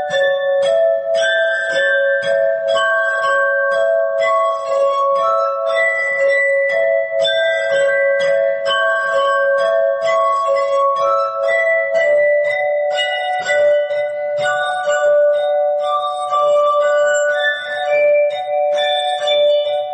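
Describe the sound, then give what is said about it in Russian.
A glass harp played by Robert Tissot performs Johann Strauss's waltz The Blue Danube, its pure, ringing tones sustained and overlapping as the melody moves steadily along, even in volume, with no voices. “Вальс «Голубой Дунай» в исполнении мастера игры на стеклянной арфе Роберта Тиссо.”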